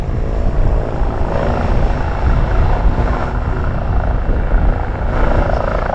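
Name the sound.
aircraft flying overhead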